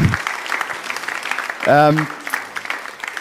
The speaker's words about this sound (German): Und genau, das kann man Applaus geben.